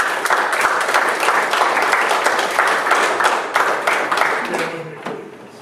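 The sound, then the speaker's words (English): An audience bursts into sustained applause for God, a dense wash of many hands clapping at steady loudness for about five seconds before it starts to fade. “Give God a hand of applause.”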